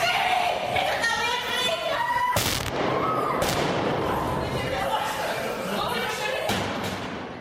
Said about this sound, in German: Schüsse auf den Gängen der Schule.